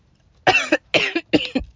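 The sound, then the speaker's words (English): Three harsh coughs in quick succession, each with a short double burst, fairly loud with brief pauses between them and no talking. “Hey, did pretty good not coughing though.”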